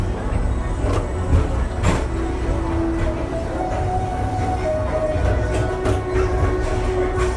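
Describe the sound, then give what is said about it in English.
An express train ride rolls through Tomorrowland at Walt Disney World with a steady, loud low rumble, faint whining tones and occasional clacks and rattles, heard continuously without any talking. “Don't worry, your express train keeps on rolling through the future.”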